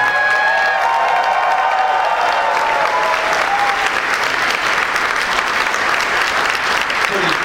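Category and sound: crowd, audience applause and cheering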